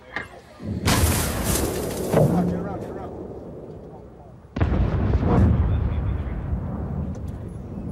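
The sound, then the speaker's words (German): An artillery section fires on command, two heavy booms a few seconds apart. Each loud blast cracks out sharply and then rolls into a long, rumbling decay that fills the gap before the next shot. “Sektion Feuer! Feuer!”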